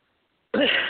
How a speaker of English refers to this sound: You'll have to excuse me. I have allergies that I'm dealing with. So if I cough, excuse me.